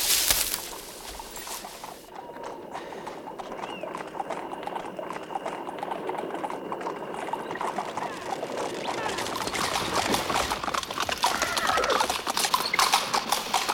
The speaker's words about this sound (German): Ich höre etwas. Ich glaube, der Pferdewagen kommt.